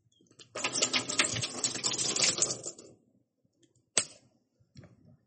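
Water pours quickly out of a bottle in a dense, gurgling, splashy rush that lasts about two and a half seconds, followed by a single sharp click and a few faint trailing sounds.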